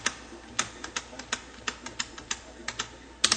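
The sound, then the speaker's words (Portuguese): A series of crisp computer keyboard key presses, about a dozen irregular clicks, ending with a quick double tap; no voices. Someone presses Enter and tabs to OK to apply font formatting. “vou com o tab até cor, vou procurar o vermelho com a seta para baixo, achei, Enter, agora vou dar tab até OK para aplicar.”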